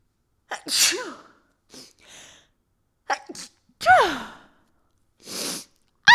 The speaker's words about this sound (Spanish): O sea, voy a estornudar.